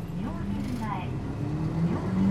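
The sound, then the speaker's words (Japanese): A route bus departs a stop, next stop Myojin-mae, bound for JR Nagaoka, its engine rumbling low as a droning tone climbs steadily with acceleration, while a faint voice murmurs briefly in the background. “大変お待たせしました。発車いたします。”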